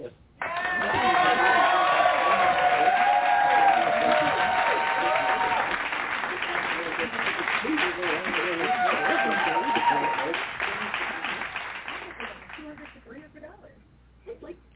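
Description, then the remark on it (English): Sustained hand-clap applause from a crowd welcoming a speaker who will conduct a lesson in basic theology, dense steady clapping for about twelve seconds with some cheering voices mixed in, then tapering off to scattered claps. “We are going to welcome her with a hand clap praise.”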